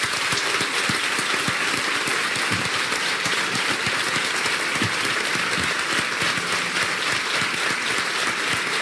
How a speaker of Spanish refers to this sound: Me gustaría que el público aquí asistente enviara un aplauso a los oyentes de esas tres emisoras, que suban 8 millones de oyentes. Un aplauso.